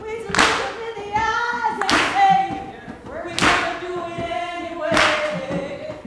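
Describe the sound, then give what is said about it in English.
Four sharp, unison claps land on a slow, steady beat, like a crowd clapping along together, with sustained singing voices carrying underneath between the beats. “The crowd joins in.”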